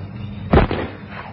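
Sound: gunshot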